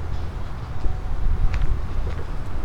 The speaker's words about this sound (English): And now we've hit the wind zone.